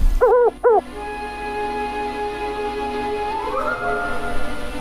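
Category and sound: bird, owl hooting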